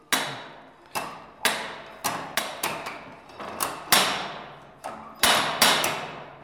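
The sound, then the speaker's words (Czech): A factory-made universal machine for sharpening knives and axes and peening scythes taps away with sharp metallic strikes, about a dozen in quick, slightly uneven succession, each ringing briefly. It is fairly loud, and no one speaks. “Je to továrně vyrobený univerzál, kde se dalo brousit nože, sekery, prostě všechno, co bylo potřeba nabrousit, anebo naklepávač kos.”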